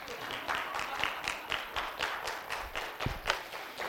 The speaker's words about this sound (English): So anyway, that's my moon demonstration. I think applause would be appropriate.